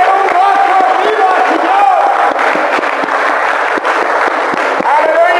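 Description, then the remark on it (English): An audience in Mexico claps and whoops loudly to give the Lord a hand, a dense wall of crowd noise with sharp scattered claps and rising high-pitched cheers and shouts throughout. “You know, the Bible should clap your hands, all your people.”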